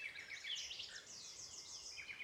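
A nightingale sings outdoors in a rapid stream of high, sweet chirps and warbled phrases, continuous and moderately faint, with no voices present.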